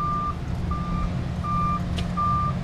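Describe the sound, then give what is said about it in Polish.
Reversing alarm beeps repeat steadily, four evenly spaced tones, over a heavy, continuous rumble of a large truck engine idling, as trucks back up to a paving machine's hopper to dump concrete mix, with no voices. “Tu jest syp, auta podjeżdżają, wsypują mieszankę.”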